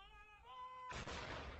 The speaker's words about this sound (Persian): 96 شلیک توپ به مناسبت مرگ الیزابت دوم در 96 سالگی در نقاط مختلف انگلیس و شماری از کشورهای همسود.